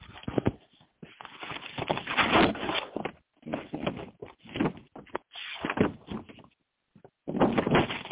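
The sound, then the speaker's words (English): Paper rustles and flaps in a series of irregular bursts as pages are turned, with brief pauses between the crisp, papery swishes and no voices. “Turning pages.”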